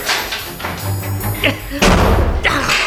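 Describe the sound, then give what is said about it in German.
A heavy, half-burned door slams shut with a loud thud, followed by faint rattling as it is locked with the key left in the lock, while voices talk excitedly around it. “Er hat uns eingesperrt!”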